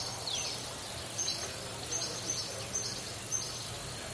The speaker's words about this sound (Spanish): Bueno, pues es el sonido de los pajaritos, ¿eh? La naturaleza, que estamos en primavera, es lo que hay fuera, la vida que hay fuera, que tenemos que cuidarla también.